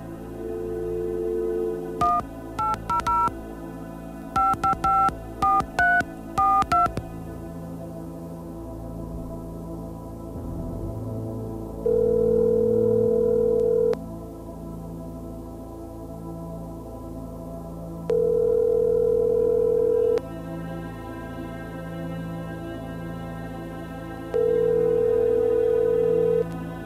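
A rapid string of touch-tone keypad beeps dials a number, followed by a low phone ringback tone buzzing three times, each about two seconds long, with long pauses between rings.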